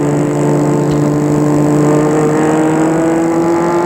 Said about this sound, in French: Et ils arrivent jusque devant l'entrée du château. Gilbert va arrêter sa voiture devant l'entrée.